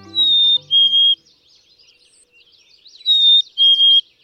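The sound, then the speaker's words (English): A chickadee whistles a clear two-note call, high then slightly lower, twice with a pause between, while faint, scratchy bird chatter fills the gap. “Of all the birds that turn up at bird feeders, chickadees, ever perky, smartly dressed in black and white, are favorites, and they're instantly recognizable as chickadees.”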